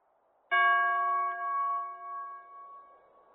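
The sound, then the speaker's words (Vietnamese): A single meditation bell in a Zen garden is struck once, ringing out with a clear, bright tone that lingers and slowly fades over a few seconds, heard alone in quiet surroundings. “Tiếng chuông thiền vang lên phía bên kia vườn Zen, báo hiệu hết giờ làm việc.”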